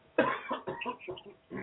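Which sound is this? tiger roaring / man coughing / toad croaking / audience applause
man coughing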